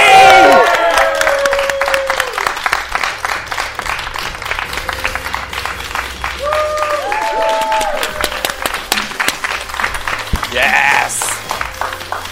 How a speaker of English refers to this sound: How about a round of applause for a former Progress Women's Champion? She is the Queen.